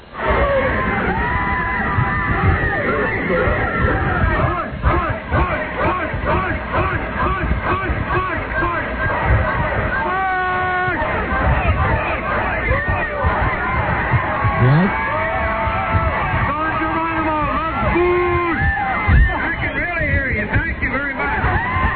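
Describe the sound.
A large crowd at a speech roars with constant overlapping shouts and yells while the speaker has trouble with his microphone, dense and loud throughout, individual voices rising out of the din now and then.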